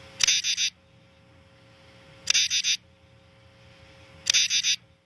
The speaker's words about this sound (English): And we happen to have, I believe, we happen to have a clip of the common true katydid. And let's listen to that for a second.